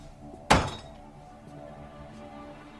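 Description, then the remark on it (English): Roy knocks once, heavily, on Stanley Nowicki's door, a dull thump that rings out briefly before fading into a quiet, low background hum, with a faint tap right at the end. “I knock, you do the cards.”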